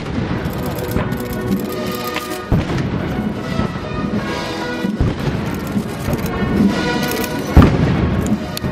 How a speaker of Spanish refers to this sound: Así sonaban hasta 21 los cañonazos.